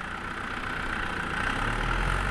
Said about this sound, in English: In Pueblo County, the winter is over. Tractors are preparing the fields for new crops.